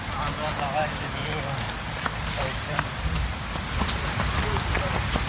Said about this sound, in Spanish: Ahí van varias personas trotando, a ver si se oye.